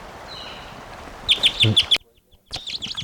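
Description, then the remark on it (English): A bird, apparently female, takes off with a quick burst of rhythmic wing flaps, about five sharp beats in a row, then a brief hush before more fluttering sounds over a faint background hiss. “Around, it just took off.”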